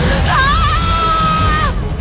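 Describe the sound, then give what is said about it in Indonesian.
A person screams loudly in one long, sustained, high-pitched cry lasting over a second, rising at the start and trailing off, over a steady low background rumble. “Aku pun berteriak sekencang mungkin.”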